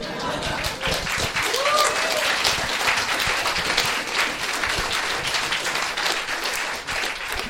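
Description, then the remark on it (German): An audience applauds steadily, a dense wash of many hands clapping that holds at an even, fairly loud level throughout, with a few whoops and murmurs rising briefly through it. “Kleiner Applaus für Herrn!”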